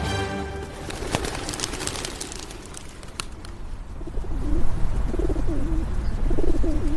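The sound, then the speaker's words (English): A pigeon coos in soft, repeated low warbling phrases over a steady background of outdoor noise with a few faint chirps and rustles early on. “Classic pigeon sound.”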